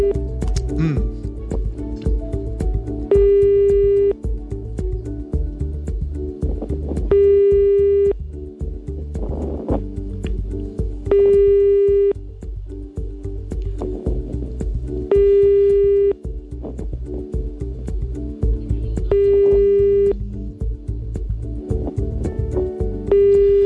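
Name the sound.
telephone busy tone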